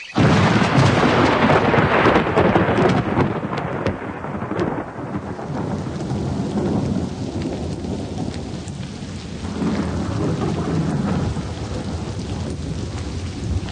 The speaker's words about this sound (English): It can't go on forever, my dear. It will. I know it will. It'll rain forever and ever. Now we know why there's so much water. It'll be over by morning.